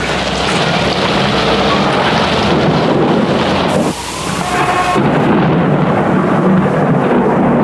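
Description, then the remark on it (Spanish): A storm at sea roars loudly and continuously, threatening to capsize a small rowing boat, with deep thunder-like rumbling and wind noise, and a harsh hissing surge like a crashing wave midway through. No voices. “Tempestad en el mar, amenazando con hacer zozobrar a un pequeño bote de remos que conduce hacia desconocidos rumbos a tres náufragos escapados de un criminal torpedeamiento.”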